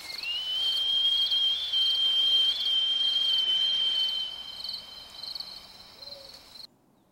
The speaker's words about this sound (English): Before it enjoys another fresh kill, the mouse proclaims its territory by howling. The mouse throws its head back and lets out a high-pitched cry into the night sky, giving it the nickname of Werewolf Mouse.